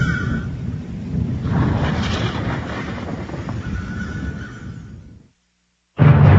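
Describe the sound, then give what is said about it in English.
Loud, deep thunder from an approaching storm rumbles and rolls for about five seconds, then cuts to brief silence before another heavy crash breaks in. No one speaks. “I think a storm's coming.”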